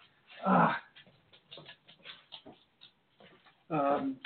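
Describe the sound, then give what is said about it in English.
A dog plays with a squeaky toy that lets out two loud, high squeals, one near the start and one at the end, with softer rustling and faint murmuring sounds in between. “She's found a squeaky toy and she's going to keep that one going for as long as we're on the air if I let her.”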